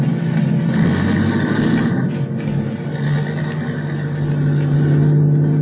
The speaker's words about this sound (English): I could hear his steps coming over to the car, and then getting in, and then we were starting off.